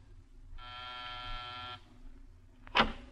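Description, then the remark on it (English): A door buzzer is pressed at the end of a corridor in a building in the Miracle Mile District of Los Angeles: a harsh, steady electric buzz sounds for just over a second and then cuts off, followed shortly by a single sharp click, with a low hum running underneath throughout. “Pause and press a buzzer.”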